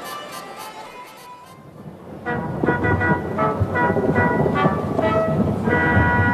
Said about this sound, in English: That's thunder!